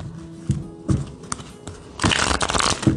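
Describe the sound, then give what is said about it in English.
Cards being shuffled: a few soft, separate papery taps, then a dense, rapid riffle of crisp flicking that runs steadily to the end. No voices are heard. “Let's get one more shuffle.”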